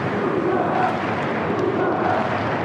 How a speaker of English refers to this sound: Who are they cheering for?